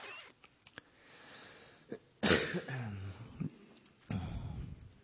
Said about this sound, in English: And please forgive me for my cough.